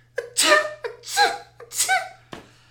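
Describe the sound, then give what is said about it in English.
A person deliberately performs three small, squeaky, cutesy sneezes in quick succession, trying to sneeze cutely. Each has a brief sharp intake before it, and the sequence ends with a faint click and no talking. “How to sneeze cutely.”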